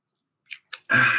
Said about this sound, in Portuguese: Eu vou me permitir tomar um golinho d'água.